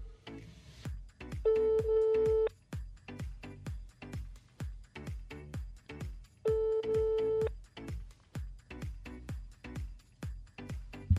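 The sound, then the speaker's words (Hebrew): A phone call dialed to a prize winner rings out twice with steady tones, each ring burst lasting about a second, over a busy rhythmic background of repeated percussive clicks; nobody picks up and no one speaks. “יש פה עוד כמה זוכים מהאמת, אבל אנחנו מחייגים ונותנים את הכבוד ואת הבמה למי שזכה בפרס באמת המובחר.”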